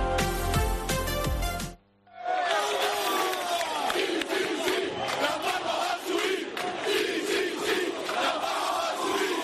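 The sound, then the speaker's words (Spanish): A short musical sting cuts off, then a loud, dense crowd of Unión Deportiva Las Palmas football fans erupts in sustained cheering and rhythmic chanting, with shouts and whistles layered throughout, welcoming the team's charter at the airport after the match against Cartagena. “Así recibió la afición de la Unión Deportiva Las Palmas, sí, la afición del equipo amarillo que estuvo en el aeropuerto a la llegada del charter de la Unión Deportiva después del encuentro contra el Cartagena.”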